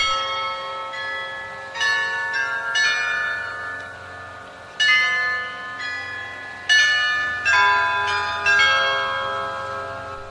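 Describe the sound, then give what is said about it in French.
Church carillon bells in Prague ring out a slow melody, each struck note blooming with rich overtones and lingering as the next bell sounds, clear with no voices. “il a réussi à remettre le mécanisme du carillon en marche, lui permettant de jouer à nouveau différentes mélodies”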